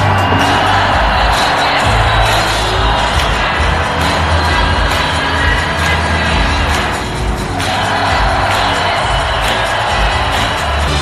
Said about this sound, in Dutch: Al sinds we Rome zijn binnengereden, staan de mensen te dansen en te juichen langs de weg alsof wij met onze bus een of andere attractie zijn.